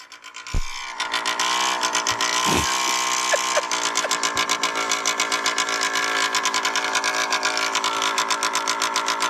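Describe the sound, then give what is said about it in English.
A steady, rapidly ticking mechanical rattle of an engine idling roughly runs loud throughout, with a few brief knocks near the start and no talking. “That's just idling.”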